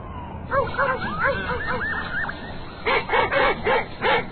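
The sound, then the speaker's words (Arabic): A small dog standing under a tree in a forest, with gathered sticks and wood around it, whimpers in a string of high, wavering whines, then gives five quick, sharp yips in a steady rhythm against a low background rumble. “وهم يتجولون شاهدت النعامة كلبا صغيرا مسكينا واقفا تحت شجرة، وقد جمع كمية من الأخشاب والعيدان حوله.”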